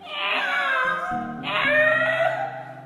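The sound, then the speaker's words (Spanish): A cat meows twice near a window on a cold night, in long, drawn-out wails, each lasting over a second, loud, with a soft low tonal hum underneath. “Era una noche fría cuando cerca de la ventana de Luis maullaba un gato.”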